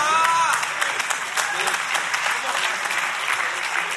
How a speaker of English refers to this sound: I don't know why y'all are clapping for that. It's really not a good thing.